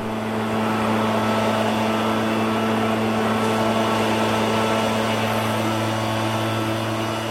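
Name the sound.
leaf blower engine running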